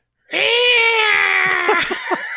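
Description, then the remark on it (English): A person imitates the eagle screech that opens a movie with one loud, sustained shrill cry that holds steady for about two seconds before wavering and breaking up at the end. “I was hoping you could do the eagle, that mimic that eagle screech for us that starts out the movie.”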